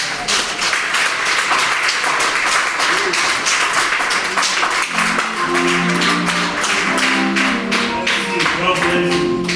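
A crowd claps for Jesus, steadily and loudly for about ten seconds, dense overlapping hand claps forming a continuous burst, with a faint voice emerging beneath the applause partway through.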